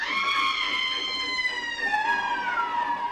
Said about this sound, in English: Then he began to move. And it was the brakes or a train whistle. If only I hadn't imagined it was something else. Above the racket of the train, it sounded like...